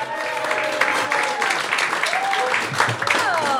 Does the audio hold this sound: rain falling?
no